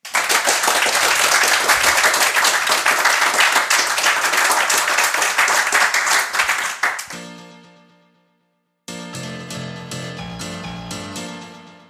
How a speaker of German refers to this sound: Die mussten die ganze Zeit ruhig sein. Jetzt bitte ich sie aber um das Gegenteil, nämlich einen großen Abschlussapplaus für die drei Podcaster.